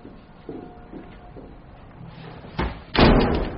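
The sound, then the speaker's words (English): A few soft knocks and rustles lead up to a door slamming shut, a loud, heavy bang near the end, preceded by a smaller thud and trailing off in a brief rattle. “You better not lock that door.”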